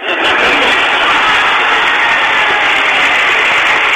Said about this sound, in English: So that's him saying hi to Bernie, and you got to love the applause from all the traders out there in that audience, just enjoying hearing this kind of talk.